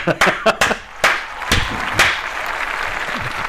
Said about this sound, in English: And here, let me give you some clap.